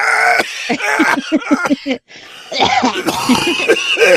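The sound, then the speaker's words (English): A loud hacking coughing fit from a person with pneumonia: a rapid string of harsh coughs, a brief pause for breath, then more strained, raspy coughing and throat clearing. “Randomly having a hacking fit, you know.”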